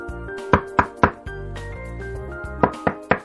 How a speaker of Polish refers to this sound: Po chwili ktoś puka do drzwi.